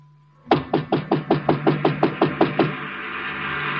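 knocking on a door

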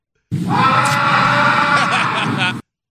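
person shrieking

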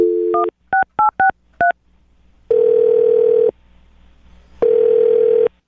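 telephone number being dialed

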